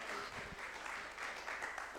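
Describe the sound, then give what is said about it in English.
A round of applause from a group, steady dense clapping that holds at an even level throughout without a break, with no voices standing out above it. “There you go, give her a round of applause.”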